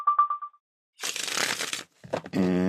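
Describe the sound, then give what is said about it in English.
A quick riffle shuffle of a deck of tarot cards, a crisp papery flutter lasting under a second, preceded by a few soft tonal beeps and followed by a voice beginning to speak. “One more shuffle.”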